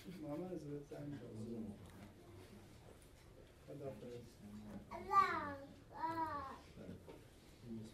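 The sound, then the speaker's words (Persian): A small child babbles and coos in a series of short, sing-song vocal bursts, with a couple of higher rising squeals toward the end, during a meeting. “این بچه کوچیک داری تو جلسه یه چیزیه.”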